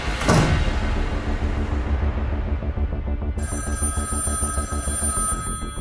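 Telephones ring insistently as calls come in about a hijacked TAP plane diverted to Madrid, with loud, repeating electronic trills overlapping one another and a high-pitched ringing tone joining partway through. No one speaks.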